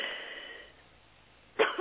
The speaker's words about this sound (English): And just cough all of them out and breathe in the Holy Spirit. That's good. Breathe him in. All foul spirits go in Jesus' name.